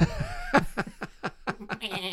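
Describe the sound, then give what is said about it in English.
A goat that has jumped out of its pen bleats outside the door of a farmhouse: one drawn-out, quavering call that breaks into a rapid stutter of short pulses, sounding almost like laughter, heard alone without talking. “Next thing you know, I hear the goat bleeding outside the door.”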